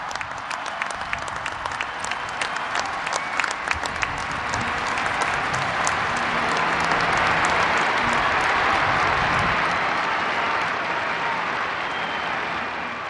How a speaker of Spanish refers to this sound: Con grandes aplausos y mucha emoción, cientos de miles de fieles y peregrinos acompañaron al Papa en la última audiencia general de su pontificado.